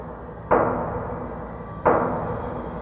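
Two loud, solid knocks on a door, spaced more than a second apart, each ringing briefly before fading into a steady low background hum.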